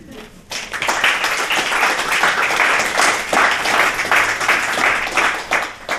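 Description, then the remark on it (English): Sustained audience applause after a reading, a dense crackle of many hands clapping at a steady loud level for several seconds after a brief quiet start, with a faint murmur of voices underneath. “I figured it's like a good way to get more applause is to read more stuff.”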